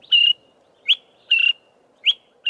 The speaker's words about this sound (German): Im Osten und im Süden Afrikas kennen viele diesen Ruf und wissen, was er bedeutet. Zum Teil schon seit Generationen. Der kleine, graubraune Vogel fliegt ein Stück voraus, setzt sich auf einen Ast, ruft dann wieder.